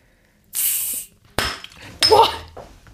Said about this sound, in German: Wie auf der Baustelle. Mit der Wasserflasche aufgemacht.